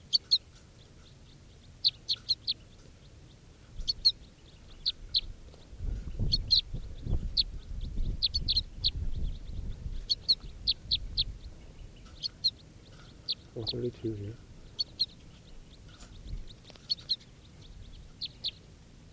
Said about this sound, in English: It's 11:51, and there are crossbills around and siskins. And these are the begging calls of, oh, I got a crossbill with a net now. It's an orange male. And this is the begging of bird 432.